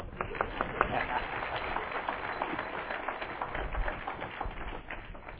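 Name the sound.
audience clapping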